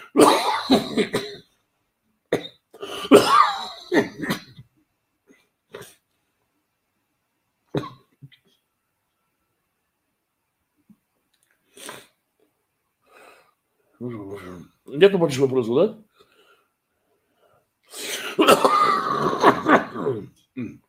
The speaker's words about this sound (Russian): Кашель, прошу прощения.